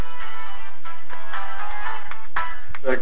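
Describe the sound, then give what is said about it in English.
A cell phone ringtone plays loudly and continuously, a bright electronic melody with shifting tones and no one speaking over it. “No, it's my cell phone, sorry.”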